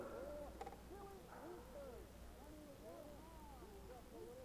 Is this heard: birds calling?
yes